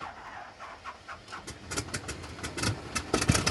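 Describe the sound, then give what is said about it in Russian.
An engine sputters and turns over, its rhythmic pulses growing louder and quicker as it catches and starts up, alone without any voices. “Есть! Двигатель завелся!”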